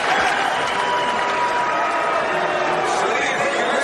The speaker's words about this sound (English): Senator Mitt Romney was loudly booed by Republican delegates, so much so that he struggled to give his speech.